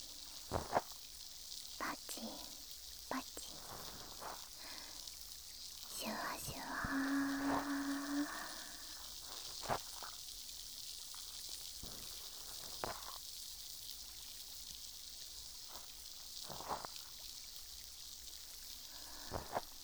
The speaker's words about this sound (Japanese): 炭酸が弱くなってきたのでそろそろ足しましょうか。綿棒をもう一回浸して、いきますね。